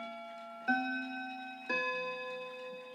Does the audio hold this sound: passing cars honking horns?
no